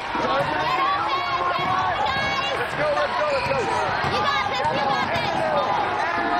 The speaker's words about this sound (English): In the gym, number one, Carl Kimball, dribbles the ball.